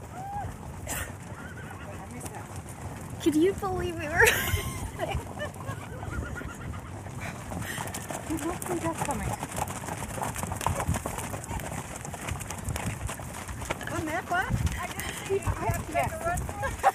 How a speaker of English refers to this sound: Reluctantly, we moved, and sure enough... A few hundred ranch horses being herded by cowpoke almost ran us over.